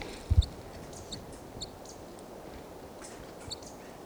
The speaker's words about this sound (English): That's the decoy crossbill there. And the titmouse isn't calling yet.